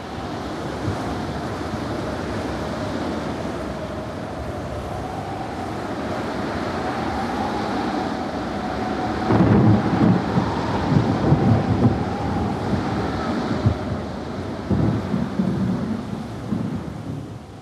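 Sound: storm with wind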